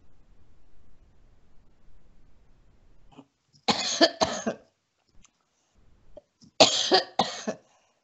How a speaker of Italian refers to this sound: Chi mi conosce, conosce anche la mia tosse.